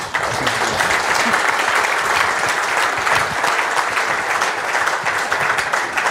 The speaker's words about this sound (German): Erstmal natürlich einen Applaus.